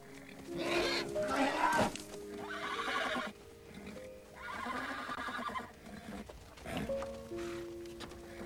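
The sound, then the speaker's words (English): A horse named Flicker whinnies loudly in a corral, several shrill, quavering neighs rising and falling over about eight seconds, with some snorting and hoof shuffling between calls. “looks at Flicker through the corral fence.”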